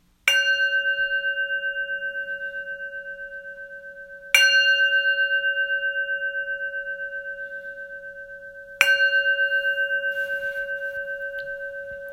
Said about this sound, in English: Beginning the 3-minute breathing space with the gong and concluding with the gong.